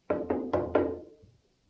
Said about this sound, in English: And as we sat and became quiet and fell silent, there was a knocking that occurred. You know, like,